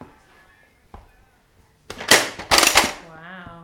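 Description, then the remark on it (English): A child claps their hands in a quick, loud burst of several sharp, uneven claps, with soft vocal sounds beforehand and an adult voice speaking right after. “Clapping!”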